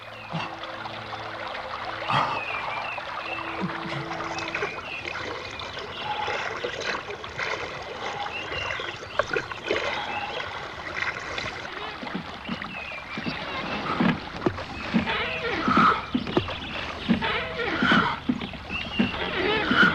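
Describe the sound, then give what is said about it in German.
The Qipeng river flows steadily, water gurgling and splashing in a continuous rush that grows a little livelier toward the end, with no voices. “Im letzten Drittel der Sendung füllen wir Ihre Badewanne mit dem Wasser des Qipeng.”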